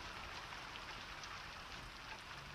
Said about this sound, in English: So be safe in the rain.